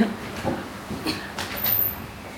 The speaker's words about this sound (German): Ist so erstaunlich, wie viel Verkehr hier noch ist. So um es ist so 9.